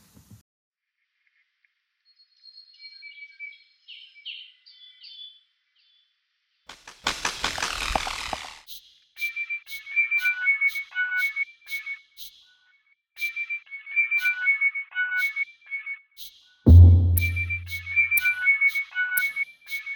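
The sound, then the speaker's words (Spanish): Calls of the resplendent quetzal (Pharomachrus mocinno), Guatemala's national bird, including courtship, territorial and alarm calls: soft whistled notes, then a loud rushing burst followed by steady repeated whistles over sharp rhythmic clicks, with a brief low thump near the end. No one speaks. “Y en este caso escuchamos tres tipos de vocalización de esta ave. Están sonidos de cortejo, los llamados territoriales y a llamados de alarma.”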